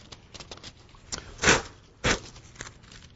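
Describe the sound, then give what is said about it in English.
Thin Bible pages rustle and crackle as they are turned to Numbers chapter 12, with light papery ticks throughout and two louder swishing flips about half a second apart. No one speaks. “I have a hardest time turning the pages on this Bible.”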